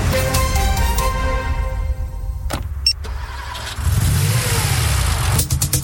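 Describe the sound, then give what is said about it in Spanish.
A car engine revs and accelerates, its pitch climbing and dropping through gear shifts, with a brief mechanical clunk midway before the motor roars loudly again. “Preparas la mochila, pones tu playlist favorita y partes a ese lugar que tanto te gusta. Todo va perfecto, porque tu auto está protegido.”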